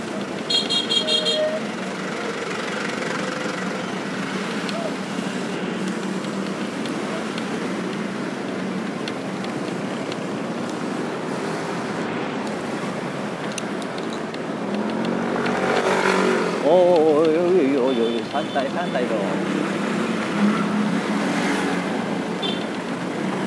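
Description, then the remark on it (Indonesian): A steady rumble of idling and creeping traffic in a jam just after the Sentul exit fills the scene, with car horns honking in short bursts, a cluster of toots rising louder near the end over the engine drone. “Macet lagi guys, gua baru keluar di keluar atasnya Sentul, masuk kita lagi guys, dan azan maghrib alhamdulillah tek tek.”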